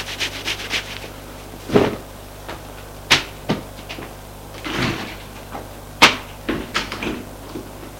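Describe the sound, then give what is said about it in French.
A door being opened, with several sharp latch clicks and knocks scattered among soft rubbing and scraping sounds against a faint hum. “Une fois déshabillé, nu, il quitte sa perruque et sa fausse barbe et ouvre une porte.”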